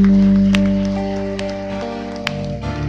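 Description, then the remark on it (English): An audience claps after a prayer, in a dense, steady patter that tapers slightly toward the end, with sustained keyboard-like chords holding underneath. “If you prayed that prayer for the first time, yeah, give him a hand clap.”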